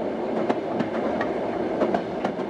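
A train runs steadily along the Baikal-Amur Railway in Russia's Far East with a continuous rumble, punctuated by sharp, irregular clicks and clacks of wheels over rail joints, with no voices.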